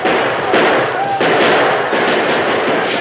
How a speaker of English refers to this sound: From the train, more gunfire broke out. A score of men inside the boxcars poured hot fire at the attackers.